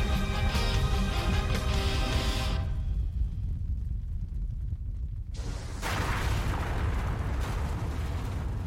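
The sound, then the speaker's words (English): A massive explosion of an airship being blown up with pink electricity roars loud, a sustained rumbling blast that dulls to a deep low boom midway, then erupts again with crackling, roaring force. No one speaks. “Did you hear that explosion at the end there? That was Matt blowing up an airship with pink electricity.”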